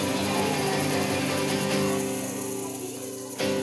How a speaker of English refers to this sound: Very nice job, friends. Shaking those shakers, making the go sound together.